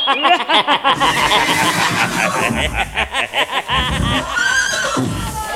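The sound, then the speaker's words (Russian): A horse neighs loudly, a long whinny that starts high and breaks into a rapid, quavering series of pulses before trailing off with a snort. “Сговорился с дружком под колодным шутом, сам обернулся в коня.”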